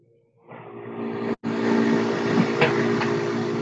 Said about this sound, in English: And we are getting a little feedback. Sounds like a car or something. Yeah, I'm trying to figure out where that's coming from.